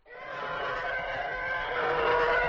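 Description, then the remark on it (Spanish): A loud, sustained TIE Fighter screech built from an elephant's trumpet layered with a car skidding in a puddle, a harsh roaring whine holding steady for about two seconds with no talking. “Un elefante gritando más un coche derrapando en un charco es esto.”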